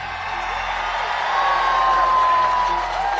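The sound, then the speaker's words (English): A large rally crowd in Philadelphia cheers in a steady, loud roar for about three seconds as RFK announces he is running for president as an independent, with a sustained high whistle or whoop rising above the noise partway through. No one speaks. “At first, RFK runs as a Democratic candidate, but in October, he announces in front of this big crowd in Philadelphia that he's running as an independent.”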